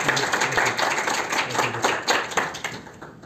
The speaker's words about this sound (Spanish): Si no es por el momento, un fuerte aplauso para darles la bienvenida. Gracias, gracias.